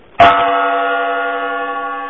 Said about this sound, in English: Mike sent in a request saying that he missed the gong